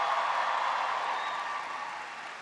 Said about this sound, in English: a big round of applause for the great introduction?